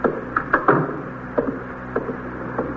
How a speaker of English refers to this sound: Close the door